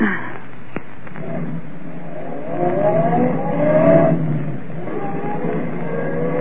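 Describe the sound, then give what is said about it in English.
A car carrying passengers starts up and revs, its engine pitch climbing steadily as it pulls away and accelerates, with a brief sharp knock near the start and steady engine drone throughout. “I've got my car right here, girls. Go on, hop in.”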